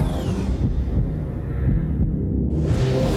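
A deep, muffled heartbeat thumps steadily beneath a dense low rumble, loud, with no voices for the few seconds it runs.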